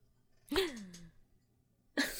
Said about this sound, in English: You leave the room and we hear startled gasps from all three of you as we cut to commercial.